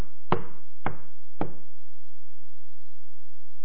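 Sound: knocking on a door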